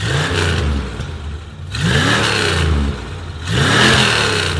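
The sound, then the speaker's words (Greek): The engine of a rusty Plymouth Fury named Christine, from a thriller film set in 1978, revs hard three times in a row, each burst climbing in pitch before dropping back to a throaty rumble. It's loud, with no voices. “Η ταινία διαδραματίζεται το έτος 1978, όταν ο σπασίκλας έφηβος Arnold Cunningham, ο Keith Gordon, αγοράζει μια ερυπωμένη Plymouth Fury με το όνομα Christine.”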